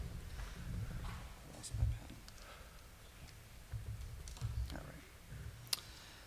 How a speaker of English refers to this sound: So please refrain from clicking during this presentation.